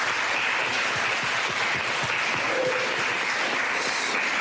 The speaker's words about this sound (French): Bien, on va s'applaudir pour cette deuxième session. Merci.